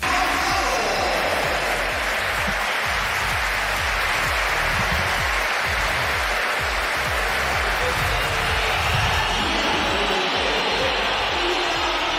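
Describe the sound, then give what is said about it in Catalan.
A large crowd at the Bernabéu stadium roars continuously, with dense applause for Gonzalo and loud whistling at Kylian Mbappé as he comes on as a Real Madrid substitute against Oviedo, blending into a loud, unbroken wash of noise that holds steady throughout. “Aplaudiments per Gonzalo, xiulets forts per Kylian Mbappé, majoria al Bernabéu quan va entrar.”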